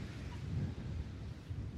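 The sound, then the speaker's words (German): Sea water washing at the shore at sunrise makes a steady, low rushing roar with a hissy top, continuous and fairly even in level for the whole stretch, with no voices. “Jetzt stehe ich direkt am Wasser.”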